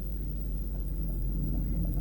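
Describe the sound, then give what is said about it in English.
A deep, low rumble of thunder rolls on steadily for a couple of seconds, muffled, with no voices present. “What is that, thundering? Yeah. It's gonna rain then.”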